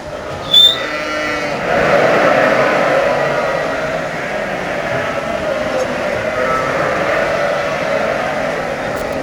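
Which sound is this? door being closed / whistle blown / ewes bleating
ewes bleating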